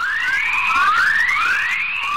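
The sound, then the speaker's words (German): Radio emissions from high-energy electrons circling Earth in the Van Allen belt in near-Earth space, rendered as sound: a steady stream of overlapping rising, high-pitched whistling chirps, like squealing birds, over a faint hiss, with no voices. “Die Töne stammen nämlich aus dem erdnahen Weltraum, und zwar von Elektronen.”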